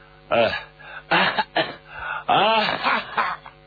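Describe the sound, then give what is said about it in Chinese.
A voice imitates the chronic cough of Guan Xiangying, on horseback: a run of dry, hacking coughs, about five rough bursts with brief gaps between them, fairly loud, a couple of them strained and voiced like throat clearing. “”关向英咔咔咳嗽了几口”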